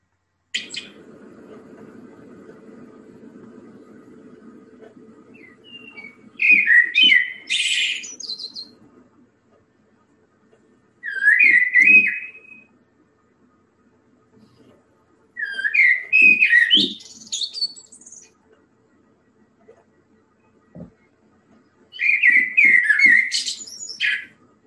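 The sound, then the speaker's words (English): A blackbird sings in four separate phrases spaced a few seconds apart, each a clear warbling run of fluting notes ending in higher twittery flourishes, fairly loud over a faint low background hum. “Let's finish just with some blackbird song.”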